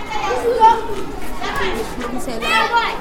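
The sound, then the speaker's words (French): A lively crowd of children playing, shouting, chattering and jostling in the recreation yard of a municipal high school in Waïguia, overlapping high-pitched voices and calls filling the space continuously at moderate loudness. “Des enfants qui jouent dans la cour, des cris, de la bousculade.”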